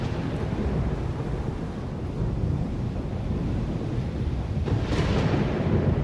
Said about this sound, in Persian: ما روی مریخ به دنیا آمدیم و بزرگ شدیم. هیچ وقت همچین طوفانی ندیده بودم.